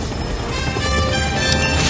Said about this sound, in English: Claw shoots a rocket. Gadget's chopper disintegrates.